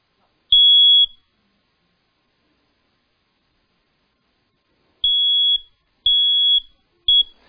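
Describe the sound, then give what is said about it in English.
A home smoke alarm, held up as a demonstration, sounds a loud, shrill electronic beep, then falls silent for several seconds before three more beeps in steady succession, the last one cut short. No one speaks. “when the fire alarm goes off at home, we take it and we do this”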